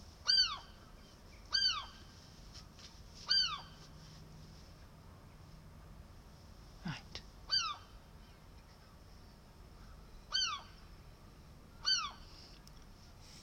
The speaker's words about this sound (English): Hear that noise? And I literally moved it about half an inch. I can't work out where he is. He's not on the window. It's like a skylight window. No, he's not shut up yet. I'll move it a bit more. Like it. What's the matter, Mr. Seagull?